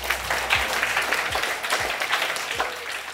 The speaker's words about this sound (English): Carbon removal brings us to 2 degrees, and the audience goes wild. So, everyone, you did it, right? Give yourselves a hand of applause.